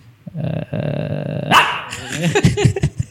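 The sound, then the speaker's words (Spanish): A man imitates a dog, with a low, rough, sustained growl that breaks once, then a loud burst and several quick, choppy barks. “Y entonces yo me sentí ofendido, por un lado, pero por otro le digo, oye, estoy imitando bien a perros también, ¿no?”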